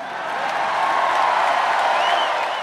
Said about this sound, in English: This was my first rally, and Terry was right. The audience was really loud.